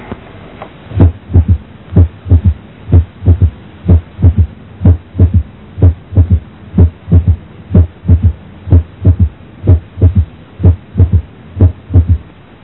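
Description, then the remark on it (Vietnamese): A steady heartbeat with a soft, low physiological third heart sound (S3), as heard in children and young adults, following each lub-dub, repeating in an even rhythm of about seventeen beats with no talking. “Ở trẻ em và thanh niên, đôi khi chúng ta có thể nghe thấy tiếng thứ ba sinh lý.”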